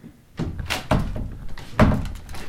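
A sticking door of a house by the water behind a dike in Friesland thuds shut with a heavy wooden knock, then bumps and rattles against its frame a couple more times as storm wind gusts push it, with a windy rush underneath.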